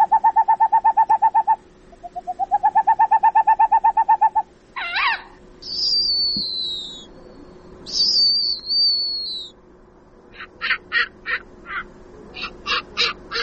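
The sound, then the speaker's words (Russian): An owl hoots in two rapid trilling runs of short notes, followed by high, thin squealing whistles and clipped bursts of calls, clear with no one speaking. “Сова – хищник.”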